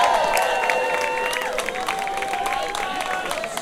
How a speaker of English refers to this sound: Enjoy the night. You have the best band of the world behind us. A big clap.